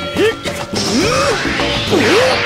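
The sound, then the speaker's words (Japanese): Several sharp, loud impacts land in quick, uneven succession as a junior welterweight boxer's jabs and a double punch connect, with brief swooping vocal sounds between them. “さすがジュニアウェルターのジャブ、そのまま打ち合って。”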